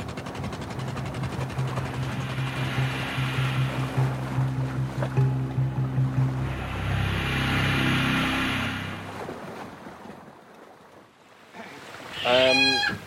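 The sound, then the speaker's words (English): A boat comes in to moor against a jetty while things are unloaded: a low, steady engine drone fades out, leaving water washing and sloshing, with a brief rising tonal sound at the end. “We're moored up against the jetty now, unloading things.”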